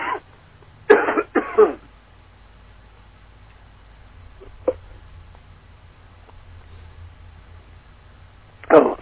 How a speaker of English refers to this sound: Just had a coughing attack here.